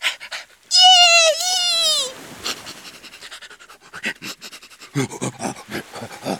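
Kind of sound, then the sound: animal, dog panting and sniffing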